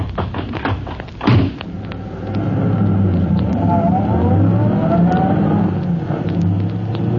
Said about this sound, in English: The night is pitch black, and as Polecat and Scrubby in their fast car escape from the scene...